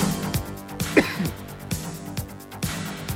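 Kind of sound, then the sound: human body sound, cough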